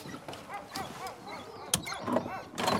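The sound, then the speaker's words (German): Several hungry dogs, about to be fed by their owner, bark and yelp excitedly in a rapid, overlapping chorus, with a few sharper, louder barks standing out near the end. “will noch seine Hunde füttern”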